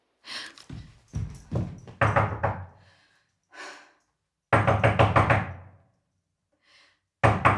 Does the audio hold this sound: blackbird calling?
no